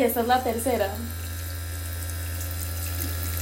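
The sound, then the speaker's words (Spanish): A vibrating device, shown at rising intensity levels, hums steadily with a low buzz while water churns and splashes out of a glass. A voice calls out briefly at the start before the device continues alone. “ya pueden ver que el agua ya está saliendo del vaso.”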